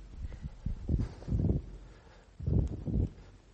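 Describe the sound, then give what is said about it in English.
Gusts of wind buffet the microphone in uneven, rumbling bursts, swelling and fading several times over a few seconds with a low, muffled roar and no voices. “It's a bit windy in there, isn't it?”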